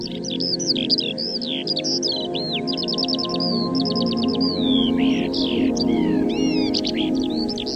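eurasian skylark song

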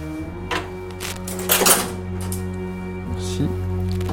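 scissors cutting

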